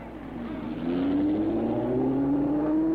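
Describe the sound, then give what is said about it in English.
A rear-engine Ford race car engine revs up steadily, its pitch climbing and holding as the car accelerates, loud, with a broad roar of mechanical noise and no voices. “in his rear engine Ford”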